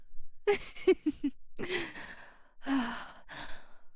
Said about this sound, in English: I can tell it did. You're panting so much. That was pretty intense, huh?